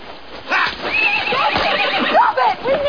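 Several horses being turned loose whinny and neigh in high, wavering calls while hooves clop and shuffle, a busy, continuous commotion lasting a few seconds.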